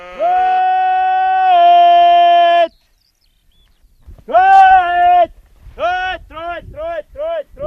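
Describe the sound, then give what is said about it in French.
A sheep farmer calls his sheep in Gaelic in the pastures of Ness, in the north of the Isle of Lewis in the Hebrides: two loud, long, drawn-out sung calls, then a quick run of short, rising shouts, with faint wind and outdoor noise underneath. “appelle ses brebis en gaélique.”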